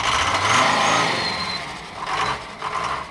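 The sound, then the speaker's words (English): Engines rev and idle at the main bus station in Tambacounda, Senegal: a steady mechanical drone with a couple of louder revving surges rising near the end, fairly loud. “At the main bus station in Tambacounda, where many would-be migrants start their odyssey,”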